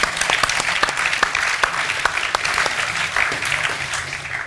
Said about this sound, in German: Dort hinten ist eine Hand oben. Jawohl. Ein Applaus für den mutigen jungen Mann.